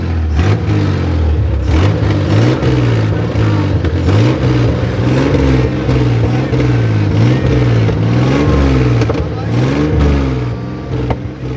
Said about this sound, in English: Yeah, you can't hear anything. He drives this huge big car into frame and then the engine roars while he talks underneath the sound of the engine, pretends to cry.